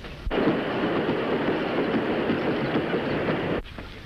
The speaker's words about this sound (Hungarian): Alázattal jelentem, a vonat az első vágányra bejár.